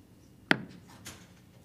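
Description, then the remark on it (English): A single sharp gavel strike closing public comment at a meeting rings out, followed about half a second later by a fainter second knock, with no voices and only quiet background around it. “Go to the hammer.”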